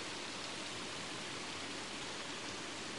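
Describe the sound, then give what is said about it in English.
A steady, unbroken wash of water trickling over two small waterfalls of mossy rock into a pool at Allen Spring, even in level throughout, with no voices. “The water is trickling down into the pool at the bottom, separated by two waterfalls.”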